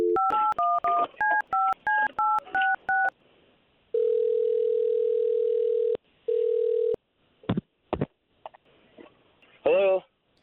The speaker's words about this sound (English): What we're going to do right now is we're going to call him, and then we're going to try to see if we can get the both of you talking after we talk to him first, okay?